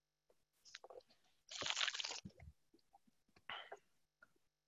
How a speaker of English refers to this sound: And I'm going to have a sip of coffee.